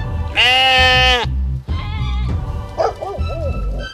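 Sheep bleat loudly: one long wavering bleat, then a second shorter one, followed by a quieter, quavering call at the end. No one speaks.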